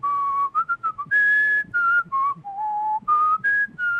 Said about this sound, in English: so yes, when we would drive from place to place, whether it was going hunting or fishing or from station to station, and my father would always, he'd start whistling and start whistling, you know, don't.